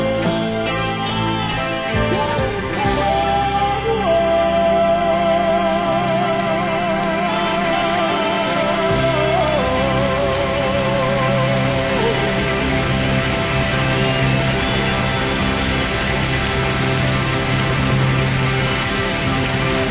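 A saxophone solo winds through a full band backing, its melodic line bending and wavering over sustained chords and a steady low end, loud and continuous with no talking.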